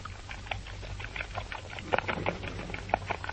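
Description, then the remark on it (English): An aardvark (ant bear) from East Africa guzzles a substitute food given in place of its usual ants: a busy stream of wet smacking, slurping and snuffling clicks in quick irregular rhythm, with a few sharper squeaky snorts standing out over a low steady hum. “This is an aardvark, or an ant bear.”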